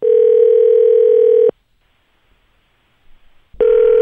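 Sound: telephone dialing a call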